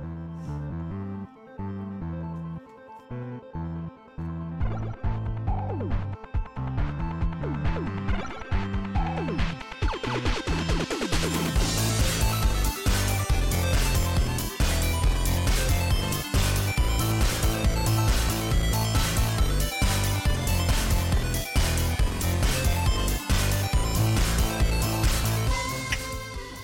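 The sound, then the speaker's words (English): An electronic song woven with Nintendo video game sound samples opens sparse, then a steady pounding beat kicks in and the mix swells fuller and brighter, playing loud with no voices. “So are those really Nintendo samples in there?”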